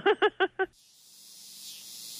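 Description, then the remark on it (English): Four quick, throbbing pulses give way to a steady, high-pitched buzzing drone of male cicadas calling to attract females to their location. The drone swells gradually and holds, with no talking over it. “So, yeah, the males are doing this literally to find a mate. They are trying to attract females to their location.”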